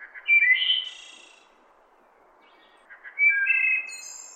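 A wood thrush sings two clear, fluting phrases separated by a short pause, each ending in a higher, buzzy trill, with no talking.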